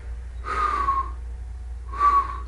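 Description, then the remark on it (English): Two soft, airy whistling breaths of a sleeping man, each a thin, slightly falling tone carried on breath noise, spaced about a second apart over a low steady hum, quiet like a sleeper's breathing. “But he continued sleeping, whistling softly with each breath.”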